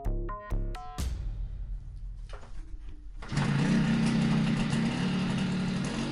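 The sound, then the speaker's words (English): A few sharp clicks and low rumbles, then a dirt bike engine roars to life, holding a loud, raspy, high-pitched buzz through the rest, with no voices. “a dirt bike rider stumbles across the body of a victim. Remember, dirt biking is a real passion here.”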